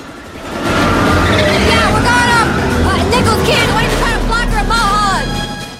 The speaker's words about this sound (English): As the cars race up the twisting road, Syl takes a hard left-hand bend.